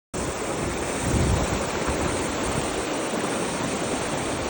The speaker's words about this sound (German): Na gut, jedenfalls habe ich euch mal so einen kleinen Soundbite mitgebracht, wie das klingt, wenn das Wasser im Boden kocht.